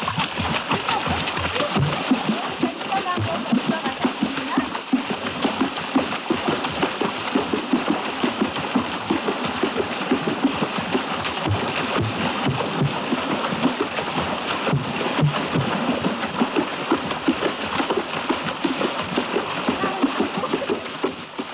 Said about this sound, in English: Some of that sound seemed to resemble splashing water. That's exactly what it was. This was African water music, not to be confused with a suite of the same name by George Frederick Handel.